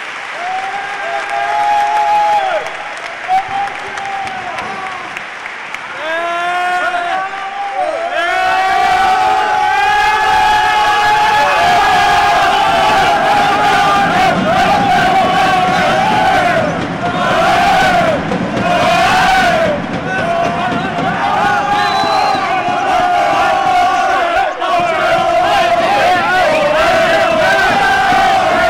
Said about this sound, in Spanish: Y este era el grito de guerra del Club Deportivo Baloncesto Cabra al finalizar el choque con toda su cantera sobre la pista. Una auténtica fiesta.